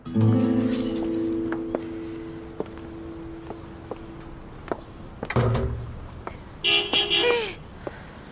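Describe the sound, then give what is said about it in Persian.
A loud car horn blares in a long sustained honk at the start, followed by sharp clicks and knocks, then another shorter, higher horn blast near the end, with faint voices in the background. “آها بوق.”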